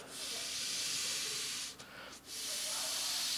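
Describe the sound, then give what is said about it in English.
A steady, loud hiss of air rushing into a ball as it's pumped up so it can be thrown out into a crowd, with two brief dips where the flow stops before resuming just as strongly. “I gotta fill it. You can't just pop a, you can't throw a flat ball out into the crowd.”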